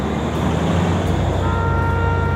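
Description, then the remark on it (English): A steady, heavy low rumble of trucks going across a highway bridge, heard from a balcony at eye level with the traffic, loud, with a droning engine hum that holds constant throughout and no voices. “It is so loud that sometimes she can't hear herself with the rumbling of the trucks going across the highway.”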